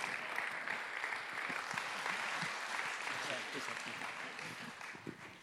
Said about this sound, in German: Kommt, gebt ihm mal einen kräftigen Applaus.